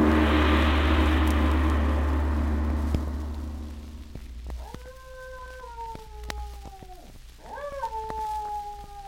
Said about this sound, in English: There is Effendi Smith's signal again. Two howls. Someone is coming whom we are to detain and question.